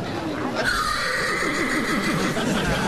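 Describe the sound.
A man's voice imitates a horse, letting out a loud, quavering whinny that wavers up and down in pitch for about two seconds over a steady background.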